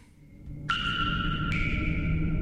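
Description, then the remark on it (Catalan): Water streams into cyclists' drinking bottles in Catalonia with a steady low rush, while a clear ringing tone appears and then steps up in pitch partway through as the bottle fills. “Aquesta aigua que sentiu és la que han aprofitat per omplir les ampolletes dels ciclistes.”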